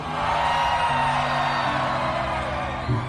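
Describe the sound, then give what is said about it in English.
Audience Section A in Jakarta roars and cheers in a sustained, loud wash of whoops and yells, with overlapping shouted voices holding steady pitches underneath the dense noise for the full few seconds. “Section A, make some noise.”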